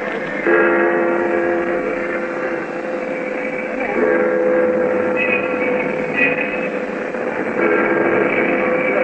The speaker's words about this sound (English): The disorder of hundreds of coolies, rickshaw boys, the noise of buses, trucks and trams, of ships and shipping, was topped at one point by the striking of noon on the famous Customs House clock high above the Bund.